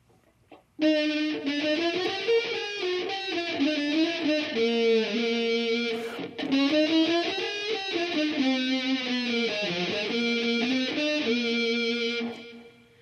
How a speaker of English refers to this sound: So the computer is distorting the sound and making it sound kind of like a fuzzy electric guitar. And that's a plug-in that I have. So my sound is running from my interface into the computer, and the computer is distorting